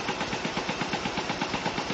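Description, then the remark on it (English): Jackhammers pound through concrete at Gillette Stadium, right outside a radio studio door, pile driving through it in a rapid, relentless stream of metallic blows, loud and steady for the whole stretch, with a harsh rattling texture and no voices. “They're using jackhammers to pile drive through the concrete here at the stadium right outside our studio door here.”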